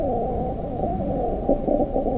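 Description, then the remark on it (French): Two flies mating, the male mounted on the female as she slightly spreads her wings, give off a steady, low droning buzz that runs unbroken for about two seconds, swelling briefly into slightly louder tonal pulses toward the end, with no voices. “Cette sorte de bourdonnement que vous entendez n'est autre que l'accouplement de nos deux mouches.”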